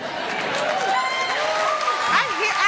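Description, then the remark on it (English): A live audience claps and cheers in a loud, continuous burst, with scattered whoops and overlapping voices rising above the steady wash of applause for a few seconds. “We're clapping that because that's the most American nonsense I've ever heard.”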